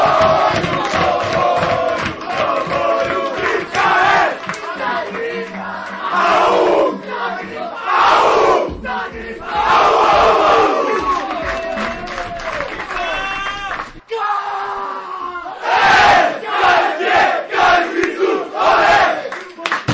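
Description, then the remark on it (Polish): A football team cheers, shouts and whoops loudly while clapping after a 1-0 extra-time win in a Polish Cup match, a boisterous, continuous celebration with overlapping yells throughout. “Brawa, wielkie brawa.”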